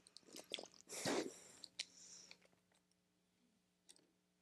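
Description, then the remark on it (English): Someone takes a drink of water during a break in a talk: a short sip with wet mouth sounds, then faint swallowing clicks and small lip noises, with no talking. “Pause for water break here.”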